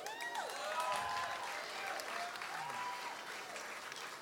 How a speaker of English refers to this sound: I'm glad y'all came out tonight. You came out for a really good reason. So you should give yourself a round of applause.